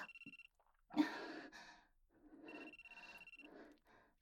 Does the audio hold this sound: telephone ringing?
yes